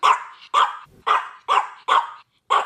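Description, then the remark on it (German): A Chihuahua barks six times in a quick, steady rhythm, each yap sharp and high-pitched, with brief silences between and no voices. “Das ist ein Chihuahua.”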